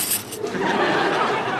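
Spare keys jangle on a belt as it is hitched up, a bright, continuous metallic clinking that rattles for a moment and keeps a steady, busy shimmer throughout.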